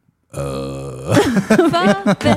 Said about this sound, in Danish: Ips. Hvad siger du, når du bøvser? Ingenting.